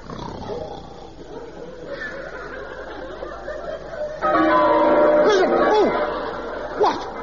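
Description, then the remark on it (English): Church bells ring out suddenly partway through, a loud, clanging wash of overlapping tones that swells and lingers over a murmur of voices. “what's that dreadful noise? The bells, Bishop.”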